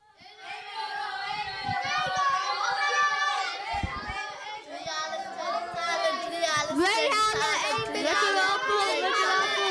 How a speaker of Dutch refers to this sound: Het is hier echt een drukte van je welste. Het is niet te doen. Ik hoor zoveel.